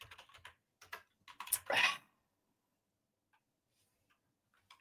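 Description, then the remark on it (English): Rapid clacking of computer keys in a dense burst as several people type answers, then a louder flurry before trailing off into a few faint, scattered taps. No one speaks. “Also, while you guys are typing,”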